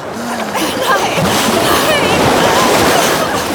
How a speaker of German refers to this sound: In demselben Augenblick jedoch kam eine zweite Welle herangerauscht und bedeckte das Haupt des Mannes wieder.